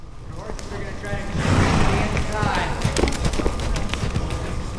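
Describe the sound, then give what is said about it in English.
Horse hooves clip-clop along a dirt wilderness trail during saddle training for Forest Service workers in the Mountain West, in a steady, uneven rhythm, over a rustling outdoor background with faint indistinct voices. “But there's one tried and true method of getting around the wilderness that the Forest Service still relies on: horses and mules.”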